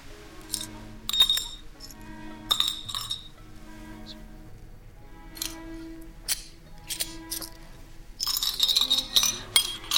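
Shards of broken glass clink and scrape together in scattered, bright bursts, growing busier toward the end, over a low steady background hum.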